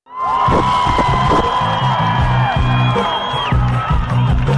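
A large concert crowd cheers and whoops loudly at a concert in Banja Luka in 2009, with high sustained shouts and screams rising over a dense roar, while a steady bass beat thumps underneath.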